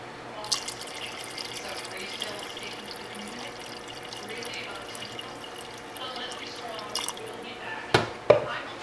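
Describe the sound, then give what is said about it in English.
Water pours into a crock pot of beans and lentils with a steady splashing and dripping, ending in a couple of sharp clinks. “And a little bit of water, a little more.”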